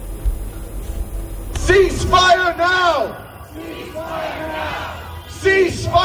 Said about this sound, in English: The protesters waved Palestinian flags and shouted slogans in support of Gazans.